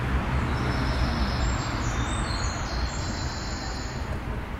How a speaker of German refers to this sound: Das hintergründige Rauschen der Autos samt leichten Vogelgezwitscher tut da sein Übriges.